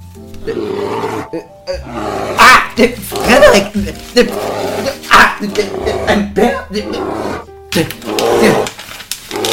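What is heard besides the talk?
bear roaring and growling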